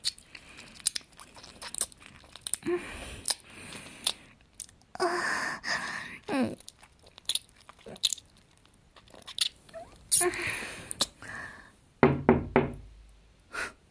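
A quick run of firm, close knocks on a door arrives near the end, after scattered wet clicking mouth noises and soft breaths, with no talking.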